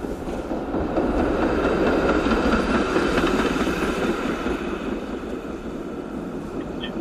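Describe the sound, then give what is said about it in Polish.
A tram rumbles steadily past on a street, a continuous loud rolling roar with metallic wheel noise and faint squeals, holding level for several seconds before easing slightly. “Tramwaj, dobrze.”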